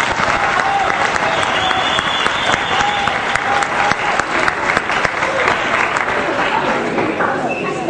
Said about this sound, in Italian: Ci sono delle domande? Sì, ce ne sono qui in realtà, quindi accogliamolo con un applauso di incoraggiamento.